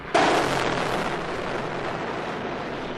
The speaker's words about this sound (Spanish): Los aviones siguen atacando al Palacio de la Moneda. Ahí van.